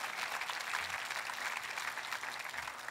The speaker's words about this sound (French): et voulez-vous applaudir parce que Dieu va répondre à ce cri-là et à ce cœur-là.